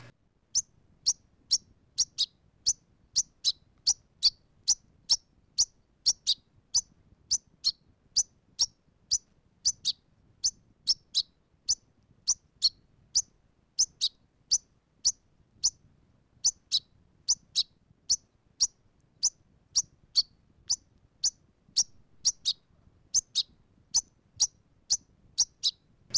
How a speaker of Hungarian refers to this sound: A fiókák jellegzetes eleségkérő hangja 2-3 magasabb, majd a végén egy mélyebb hangból áll.